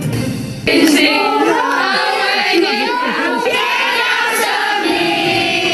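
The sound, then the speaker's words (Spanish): Doctors in Wuhan sing, cheer and applaud together as the last COVID-19 patient is discharged, a loud, steady mass of voices with a noisy clapping texture running underneath for several seconds after a sudden start. “Con cantos y aplausos, los médicos de Wuhan despidieron a un mal que parecía no tener fin.”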